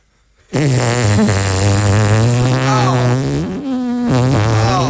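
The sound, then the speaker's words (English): A voice imitates a loud, sustained fart, recreating a massive fart let out by a bald man in a crowd, a buzzing, rasping blat that holds steady for several seconds with a few pitch wobbles and brief breaks before trailing on. “And I'm standing right behind him, and I don't know if he's deaf, but he's just dropped a massive fart.”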